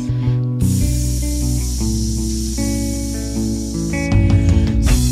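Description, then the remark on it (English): A crowd of people makes a long, continuous snake-like hiss, a steady breathy sound lasting the whole stretch, layered over sustained musical tones that shift partway through. “I think the hissing is good.”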